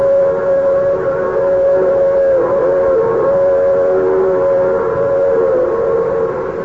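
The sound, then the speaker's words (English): The 516 train passes with its whistle blowing, one long, loud, steady wail with a slight waver in pitch, held over a low rumble for the whole stretch, with no voices. “Every day, I close my office at 5 o'clock and go down to the tracks and watch the 516 go by.”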